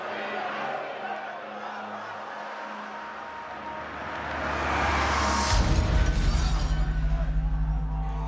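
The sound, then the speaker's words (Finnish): A crowd murmurs as a car engine revs up, accelerating along a street, and grows louder, then a sudden violent crash with shattering as the car drives straight into the crowd, followed by a heavy roar of screaming and commotion. “Auto kiihdyttää kadulla vauhtiaan ja törmää suoraan väkijoukkoon.”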